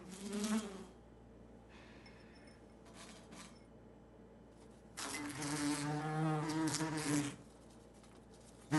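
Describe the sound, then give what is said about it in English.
A wasp buzzes inside an upturned glass in a kitchen sink, its droning pitch rising and falling in short bursts, with a long, louder stretch of frantic buzzing near the end. Fairly clear. “She looks at the sink, where the wasp still rattles around in the glass.”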